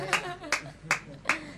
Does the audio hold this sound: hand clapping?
yes